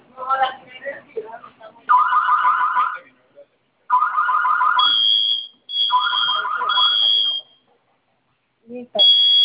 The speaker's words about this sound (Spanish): Ok, estas teclas, botones, los vamos a presionar los dos al mismo tiempo por 5 segundos. Va a sonar su clave y va a sonar su alarma e ingrese su clave, por favor.